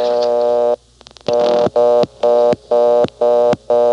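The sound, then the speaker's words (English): A steady phone dial tone cuts off and a few quick dial clicks follow as a 3 is dialed in error. The exchange blocks the call and a loud, fast on-off all-trunks-busy signal pulses repeatedly, roughly three beeps per second, with no voices. “a customer dialing a 3 initially is clearly a dialing error. So they can block it, and they do. It slides right over to the 11th terminal, as if all the trunks were busy.”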